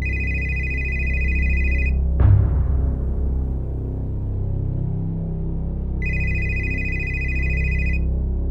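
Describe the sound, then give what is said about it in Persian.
A telephone rings in two bursts, a steady high electronic trill lasting about two seconds each, separated by a pause with a brief click, over a low rumbling background hum. “تو همین فکر و خیال بودم که تلفنم زنگ خورد.”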